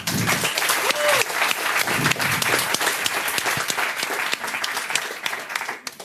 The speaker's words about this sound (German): Und da hat sich diese tolle Gruppe Healthy sehr viel Gedanken darum gemacht. Einen tobenden Applaus bitte.